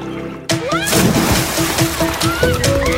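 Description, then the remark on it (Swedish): A sudden, loud splash as someone plunges into a pool, followed by a few seconds of close churning, sloshing water with bubbly, warbling tones underneath. “När någon annan har tänkt på allt så ni kan lägga all energi på att göra det perfekta hoppet i poolen.”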